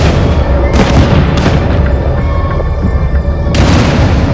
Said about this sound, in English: In the night vision display, a tusked elephant lifts its trunk. Throw it, throw it. The rangers throw flash grenades.